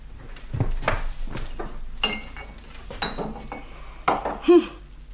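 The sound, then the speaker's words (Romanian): A clay pot, earlier filled with milk and now empty, is picked up and set down among clattering dishes, with several sharp clinks and knocks at an uneven pace and one brief ringing tap near the end. “Dar ce-i cu oala asta? Că doar adineaur umplusem cu lapte mult. Și acum e goală.”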